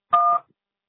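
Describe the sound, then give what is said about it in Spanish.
A single short voicemail recording beep: one steady electronic tone lasting about a quarter second, clear and moderately loud, followed by silence. “Después del tono, graba su mensaje.”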